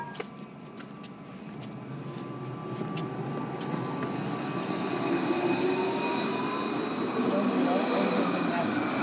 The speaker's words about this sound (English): Hang on, I can't hear you. Tram in my ear.